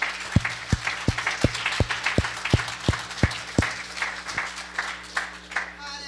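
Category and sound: crowd, audience clapping hands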